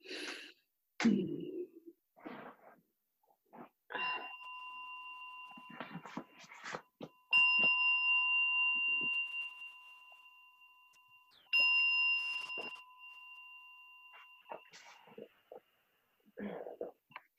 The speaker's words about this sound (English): So I've got my little bell, my little portable one. It's not as good as the big one at the center, but it'll do.